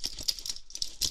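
A German Shepherd's dog leash chain rattles in several quick, bright metallic jingles across about a second, with brief pauses between shakes and no voices.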